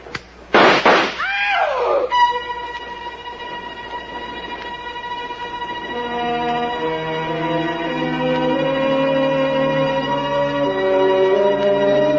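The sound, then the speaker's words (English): A couple of loud, sharp gunshots, fired in the dark and missing their targets, crack out at the start, then give way to a steady rumbling train noise with sustained, droning tones that build slightly in loudness. “The shots missed Claire. They missed me. They were, after all, shots in the dark.”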